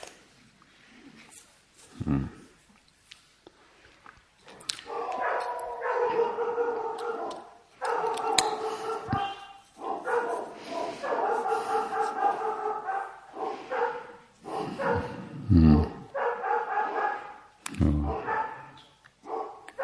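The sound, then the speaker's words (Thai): Dogs bark in sharp, scattered bursts while drawn-out howling and whining rise and fall in between, fairly loud, with a few distinct barks near the start and end. “มันถามว่าเอวัดพระพงษ์มีสุนัขบ้างไหมเวลาเดินจงกรม”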